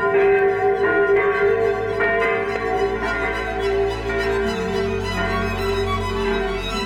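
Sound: church bells ringing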